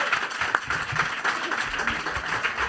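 An audience applauding a participant's mother, a dense, steady patter of many hands clapping that fills the whole moment at moderate loudness, with no one speaking over it.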